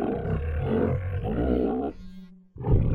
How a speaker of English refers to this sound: And the crowd goes mad. Just listen to them go.